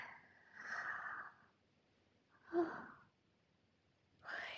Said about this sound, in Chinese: 呼吸声好大，是想睡觉了吗？